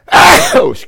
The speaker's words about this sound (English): I don't mean to sneeze at you. I think I've done that only two or three times in all these 40-some years.